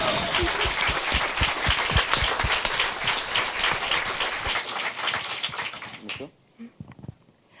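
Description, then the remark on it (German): An audience applauds a presenting group with dense, steady clapping for about six seconds, then the clapping thins out and fades, leaving a few scattered claps and quiet murmurs. “Nochmal einen Applaus für die Gruppe erstmal, also für uns.”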